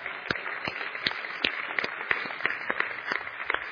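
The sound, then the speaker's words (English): An audience applauds to celebrate the launch of a partner church, a dense, steady wash of many hands clapping with sharper individual claps popping out irregularly, moderately loud and with no voices over it. “It's okay to clap.”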